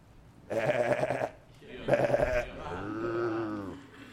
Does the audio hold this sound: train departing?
no